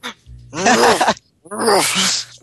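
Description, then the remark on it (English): A person imitates a dog barking with two loud, drawn-out vocal woofs, separated by a brief pause. “Right, dog. Dog noise. Panting, barking, what?”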